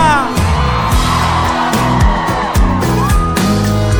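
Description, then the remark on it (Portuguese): A loud crowd of women in Goiânia screams and cheers over pounding live music with heavy bass beats, the high-pitched shouting sustained and dense for the whole stretch. “Eu quero ouvir o grito da mulherada solteira aqui em Goiânia.”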